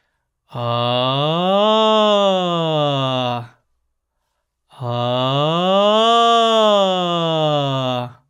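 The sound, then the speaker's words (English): As a vocal exercise, a single voice sings two long, wordless low-high-low siren glides over a comfortable range, each sliding smoothly from low up to high and back down, steady and full, with a short silence between them. “All right, for our next exercise, freely explore a wider but still comfortable range on a low, high, low siren.”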